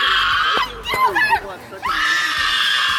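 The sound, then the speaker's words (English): A woman screams at the top of her lungs on a college campus at a man carrying a Trump sign, a loud, sustained shriek that breaks briefly into wavering, strained cries before surging into another long piercing scream, with no words spoken. “It's just a woman screaming at the top of her lungs.”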